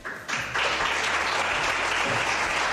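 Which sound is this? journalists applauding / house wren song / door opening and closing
journalists applauding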